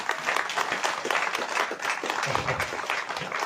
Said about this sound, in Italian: Ma al di là di ricordare questo poeta, un plauso va agli abitanti di Carfon. Gli abitanti di Carfon meritano un applauso, fatemelo sapere.